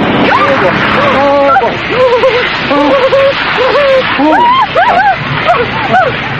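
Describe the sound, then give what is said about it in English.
A car drives through a river that has flooded over its banks, the water right over the tires, with a steady, loud roar of rushing and splashing water while excited voices cry out over the noise. “The water was right over the tires.”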